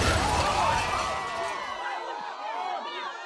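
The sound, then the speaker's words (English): A loud crash with shattering glass bursts out at the start as a car ploughs into a group of people standing outside a coffee shop and into the shop itself, then breaks up into scattered debris while several people scream and cry out for a few seconds. “The car never slowed as it plowed into them, dragging them screaming into the shop itself.”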